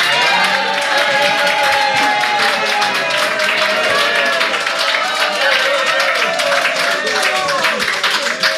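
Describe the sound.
Sustained audience applause in Bonstetten at the Bern einfach spezial show, a dense steady wash of many hands clapping at constant loudness, with faint crowd voices and cheering mixed underneath throughout.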